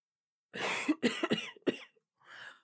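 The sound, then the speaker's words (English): A woman who has been unwell for three days with a sore throat coughs hard in a rapid fit of four or five harsh, raspy bursts, then pauses and lets out a weaker, breathy cough. No one speaks. “You argue for a bit, until another coughing fit makes her dizzy, and slowly she faints in front of you.”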